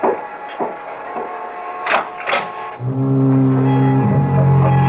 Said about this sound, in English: The weather's changing. I can scarcely see the beam of the lighthouse. It's getting all misty. And don't be frightened if you hear the foghorn. I like that sound.